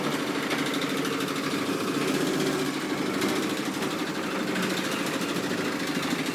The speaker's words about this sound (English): Some sort of big lorry thing. Yeah, it's all happening here today.